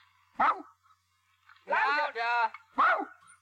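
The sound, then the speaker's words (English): A person imitates a small dog barking: a few short, high, yappy yelps separated by brief pauses, fairly loud, with one longer strained bark in the middle. “That's a bitch dog. I was gonna say, God damn Chihuahua.”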